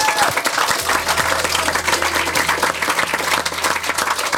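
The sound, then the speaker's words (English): Sustained applause from an audience giving themselves a round of applause for their questions, dense continuous clapping at a steady, fairly loud level for several seconds, with a low hum underneath and no one speaking over it. “Why don't you give yourselves a round of applause for such wonderful questions.”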